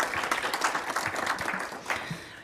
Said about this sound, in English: I'd also especially like to thank the interns and volunteers who make days like this happen. They give up their time to perform valuable and admirable public service. So can we just give them a round of applause before we start? Thank you.